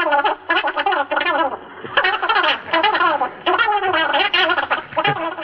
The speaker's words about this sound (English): But when the same record is played at a faster speed, it produces the sound that was used on The O'Neills, the voice of Donald Duck. Here's the same record at high speed.